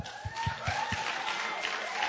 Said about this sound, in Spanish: Emprendedor, levántate. Un aplauso.